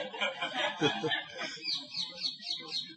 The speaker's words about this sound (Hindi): और ये बृंदा देवी का तोता है, अभी सुना है और वो भी हंस रहे हैं।